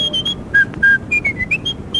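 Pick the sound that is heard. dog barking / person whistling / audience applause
person whistling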